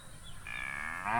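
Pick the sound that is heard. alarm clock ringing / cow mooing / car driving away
cow mooing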